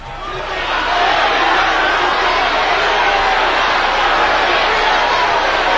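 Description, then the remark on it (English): A large studio audience shouts and roars its disapproval together, swelling within the first second into a loud, dense wall of voices that holds steady without a break. No individual words stand out. “The crowd screams their disapproval.”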